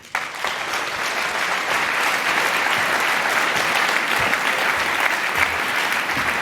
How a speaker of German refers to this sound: Bitte eine große Runde Applaus für Rainer.